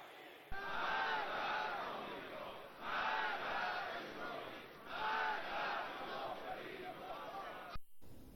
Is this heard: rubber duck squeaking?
no